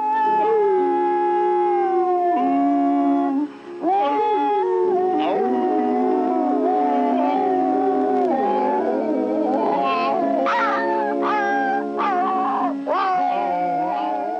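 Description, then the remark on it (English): A man's voice imitates the hound dogs howling for Disney's Lady and the Tramp, long wavering howls that rise and fall and overlap as if from a small pack, loud and continuing steadily for the whole stretch. “And howled for the hound dogs in Lady and the Tramp.”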